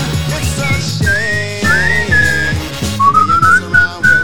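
A clear, sliding whistled melody rises and holds its notes over a steady, rhythmic instrumental backing with a bouncing bass line, fairly loud and upfront throughout.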